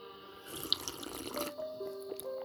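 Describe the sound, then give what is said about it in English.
Kava tea with a splash of milk being poured into a cup, a steady splashing stream for about a second that settles into a brief ringing, rising fill tone as the cup fills. “Ah, that's the kava tea with a splash of milk. Nothing beats it.”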